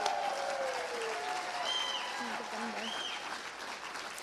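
Steady audience applause, a dense wash of clapping sustained throughout, with faint whistles and cheers rising briefly above it.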